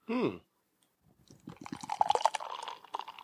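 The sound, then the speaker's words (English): A short vocal sound, then Lucidum West Coast IPA beer glugs and splashes into a glass for about two seconds, the bubbly pour rising slightly in pitch as the glass fills. “Oh, that's a good pour.”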